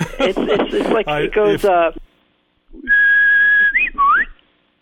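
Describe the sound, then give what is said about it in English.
A person whistles a short birdlike phrase: a long steady high note, then a quick wavering flourish and a rising slide, imitating a warbler's song that resembles an Old World warbler, very similar to Setia diphone, a typical bird of Asia. Someone talks just before it. “If I could whistle a passage, do you think you could identify the bird”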